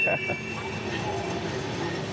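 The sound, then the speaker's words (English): A freight train still in Conrail paint rolls past at Horseshoe Curve, between two lines of thunderstorms under low-hanging clouds: a steady, unbroken low rumble, with a sustained high metallic whine over it and a brief clank at the start. “the government consolidated them into a big railroad company called Consolidated Rail, or Conrail.”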